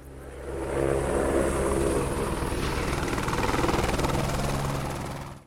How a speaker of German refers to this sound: In steilem Sinkflug kommt der Helikopter heran, er setzt auf, um betankt zu werden.